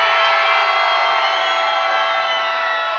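A concert crowd in London roars with cheers and shouts, answering a call from the stage to make noise, in a dense, continuous wash of noise, loud and steady for about three seconds with no single voice standing out.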